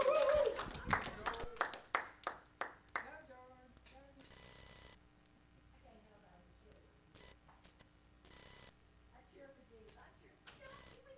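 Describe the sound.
An audience at a morning church service bursts into loud, dense applause for a preacher coming up to minister the word, thinning into a few scattered claps within about four seconds, followed by a man speaking over faint background murmur.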